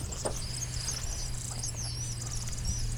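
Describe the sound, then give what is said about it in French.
A kingfisher's thin, high-pitched whistles come in short repeated streaks, faint above a steady low hum and soft insect-like background noise, with no voices. “Ça, c'était le martin pêcheur.”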